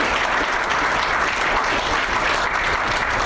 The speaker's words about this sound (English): Okay, I think that does it. So let's give a round of applause to our panelists and presenters this evening.